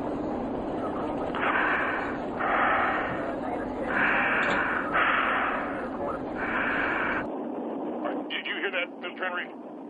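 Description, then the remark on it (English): Heavy, rasping breaths of a woman on a recorded phone call to someone's home, played from a home answering machine over a hissy, muffled phone line, about five in a slow steady rhythm, followed by a short stretch of faint, garbled voice. “I heard breathing.”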